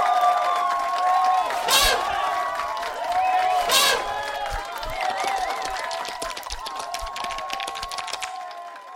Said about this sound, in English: Well done, primates. Put your applauding appendages together and show your appreciation to Titus the Savage and his lovely mate.